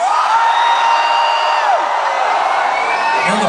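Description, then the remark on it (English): A concert crowd roars steadily, with high whoops and shrill yells from girls rising and sliding above the dense wall of cheering for the whole stretch. “I see some girls yelling, this is not time for you, okay?”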